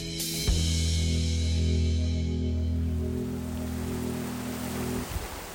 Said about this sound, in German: Das, was man hier im Hintergrund plätschern hört, das ist die Möll. Und für mich persönlich sorgt diese Geräuschkulisse als Stadtmensch für sofortige Entspannung.